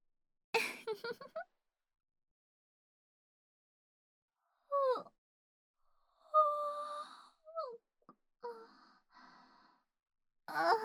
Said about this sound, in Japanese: ごめんなさい。私、あくび。